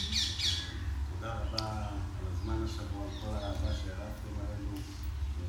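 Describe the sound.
Common myna birds squawk and chatter repeatedly in the background in Kiryat Shmona, harsh calls overlapping over a steady low rumble, with faint voices mixed in.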